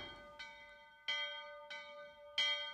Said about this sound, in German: Die Glocken in diesem Dorf sind schlimmer als die der Pauluskirche. Noch einen halben Kilometer entfernt stören sie. Diese Priester sind wirklich zu lärmend.